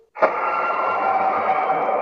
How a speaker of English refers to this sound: And then there's radios that the engineers were using.